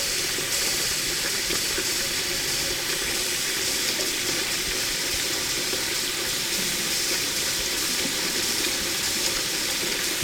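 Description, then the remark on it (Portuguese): A forceful jet of water sprays continuously into a sink as all the pans used earlier are washed, a steady, hissing rush that stays loud for the whole stretch, with no voices. “A primeira coisa a fazer era lavar com um jato agressivo de água todas as panelas que haviam sido utilizadas anteriormente.”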